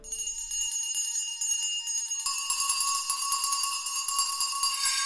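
A dense clamor of many bells throughout a house ringing at once, bright overlapping tones that swell into a continuous, loud jangling wash with no voices.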